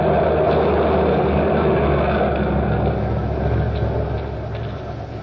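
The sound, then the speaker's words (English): A truck that has been unloading fish, trying to get out to the street, rumbles with a loud, steady low engine drone that holds for several seconds and then eases off slightly toward the end. There is no talking. “These drivers. It's that truck. Wants to get to the street.”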